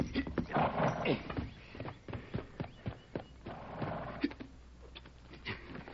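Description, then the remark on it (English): A horse's hooves thud and clop over a dirt trail, an uneven run of fairly loud beats that slows and scatters toward the end, with a faint rustling background. “Come on, fella, get up there.”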